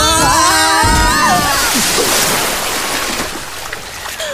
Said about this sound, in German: Nein, ich sehe den Ausgang. Wir plumpsen gleich in ein großes Wasserbecken.